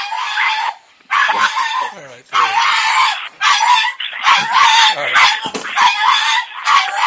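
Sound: dog screaming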